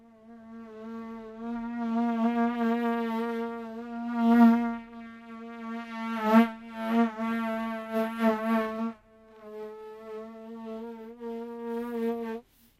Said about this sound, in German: Die Fliege sitzt auf der Scheibe, streckt zwei Beine nach vorn und reibt sie aneinander. Sie setzt die Beine zurück auf das Glas und steht still.